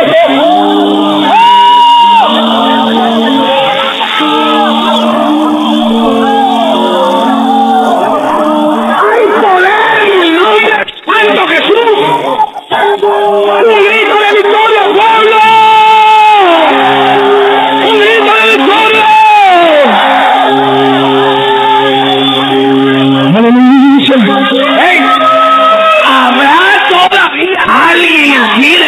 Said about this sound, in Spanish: Un aplauso, Señor, aleluya.